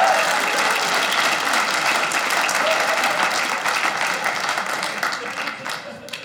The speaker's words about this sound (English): I don't know who he over there clapping for.